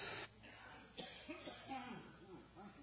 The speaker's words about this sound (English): I need to cough.